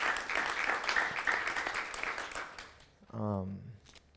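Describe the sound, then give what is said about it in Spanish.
An audience applauds guests who came, in a dense, steady patter of many hands that fades out after a few seconds, followed by a brief spoken voice. “Un aplauso por ellos, amen. Give them a hand.”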